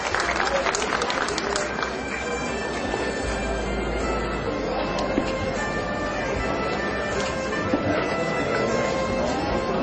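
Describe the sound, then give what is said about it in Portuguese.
A crowd applauds steadily for about ten seconds at a ceremony for people honoured with the title of citizen of Formosa and an honorary commendation. It is a dense, even wash of many hands clapping at constant loudness, with murmuring voices mixed underneath. “Uma salva de palmas.”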